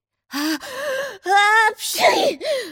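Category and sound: human body sound, sneeze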